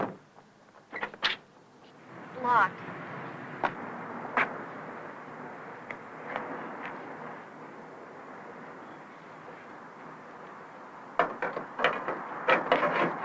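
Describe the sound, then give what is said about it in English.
Sharp mechanical clicks and clunks as the door handles of a locked yellow car are tried, scattered at first, then a quick cluster of rattling pulls near the end, all over a steady low background rumble. “I'll check the doors.”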